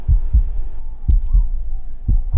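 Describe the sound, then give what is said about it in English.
A muffled heartbeat thumps in three steady lub-dub pairs about a second apart, deep and low over a faint background hum, with no voices. “I do like listening to your heartbeat. It's so soothing.”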